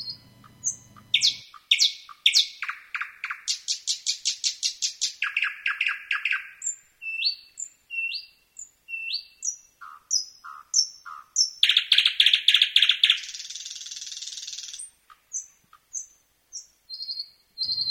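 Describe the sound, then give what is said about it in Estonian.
A single songbird sings alone, loudly, in a varied sequence of rapid trills, repeated whistled notes and buzzy phrases with short pauses between them. “Jumal kõneleb meiega läbi meie koduma looduse, näiteks linnu laulu kuulates.”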